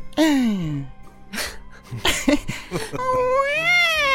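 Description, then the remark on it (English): A woman's voice makes whiny, cat-like crying sounds: a falling wail, a few choppy sobbing noises, then a long wavering mewl. It is fairly loud, a woman crying at a front door in imitation of a cat's cry. “She sounded like how my cat was supposed to sound.”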